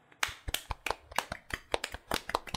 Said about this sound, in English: yeah, Paul Joseph Watson is an incel, and I also put for people to clap for this. So, Paul Joseph Watson is an incel. Please clap.